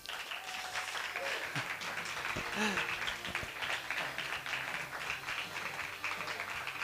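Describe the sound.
A crowd applauds steadily, a dense, continuous wash of many hands clapping at even loudness throughout, with faint voices and a few brief tonal sounds mixed underneath.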